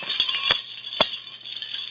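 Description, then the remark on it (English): Bells ringing with a bright, high, shimmering tone that carries steadily throughout, broken by a few sharp clicks or knocks in the first second. No one speaks. “Oh, and the bells are ringing.”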